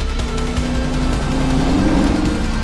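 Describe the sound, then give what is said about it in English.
A car engine revs hard during a chase as the car pulls in front of an SUV, its low growl climbing in pitch over a rush of road noise, loud and continuous throughout, with no voices. “He pulls in front of the SUV. Harry slams the brake pedal. He follows close behind.”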